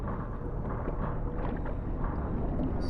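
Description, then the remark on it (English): A boat engine drones steadily and without a break, a low rumbling hum with some wind-like rush over it. No one speaks. “Oh my God, that's the boat's engine.”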